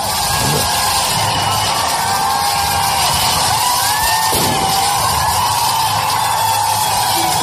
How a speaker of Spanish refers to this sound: Y este es un cine indio. En Malegaón se estrena la película Salman Khan Tiger 3, fuegos artificiales en la propia sala entre las butacas.